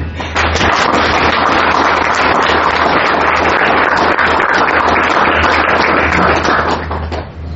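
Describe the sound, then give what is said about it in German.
A crowd applauds steadily for several seconds, a dense, loud wash of many hands clapping with no pauses, tapering slightly at the very end. “Vielleicht einen Applaus.”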